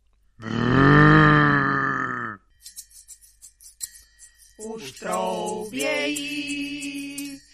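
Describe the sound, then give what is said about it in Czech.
A red deer stag roars during the rut in the mountains, a long, deep, harmonic roar lasting about two seconds, then after a pause of faint clicks, a second rough, wavering bellow rises and holds to the end. “Už troubějí, na horách jelení”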